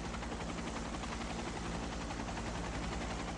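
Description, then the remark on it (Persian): A loud, steady helicopter roar fills the whole stretch, rapid rotor chop pulsing over a constant engine whine and hum, continuous with no voices. “حاجی، باید با هلیکوپتر بریم.”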